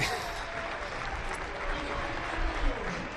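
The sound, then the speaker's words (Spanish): A large stadium crowd at Vallecas applauds steadily as substituted players Álvaro García and Camello leave the pitch, a dense, continuous wash of clapping and cheering that swells slightly toward the end, with faint commentary voices underneath. “Aplaude la afición a Álvaro y a Camello, que se retiran del campo tranquilamente.”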